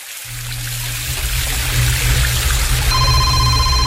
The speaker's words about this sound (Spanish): ¿Y qué es ese sonido? ¿Es una cascada? Sí, una cascada.